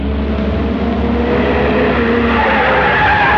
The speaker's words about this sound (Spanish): El auto hace un rápido viraje apartándose de la avenida transitada e internándose por una oscura callejuela flanqueada por terrenos baldíos.